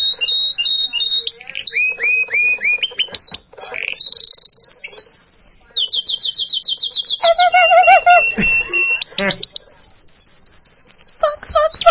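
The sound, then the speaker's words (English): A bird sings a long, varied song: rapid trills, whistled sweeps and chattering phrases follow one another with barely a pause, bright and loud, with no voices over it. “So they're saying that if you listen to bird songs, which is what we're listening to right now, yeah.”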